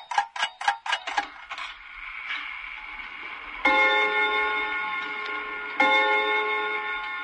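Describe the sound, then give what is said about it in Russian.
A pendulum clock ticks rapidly a few times, then two loud, resonant chime strikes ring out, each hum slowly fading before the next. No one speaks. “Часы гулко пробили 12 раз.”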